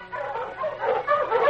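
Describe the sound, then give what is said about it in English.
A pack of sled dogs, with the great Malamute dog King running ahead, barks and yips in an overlapping, continuous clamor, mid-pitched and fairly loud, with some whimpering mixed in and no speech. “The great dog King ran ahead of the pack.”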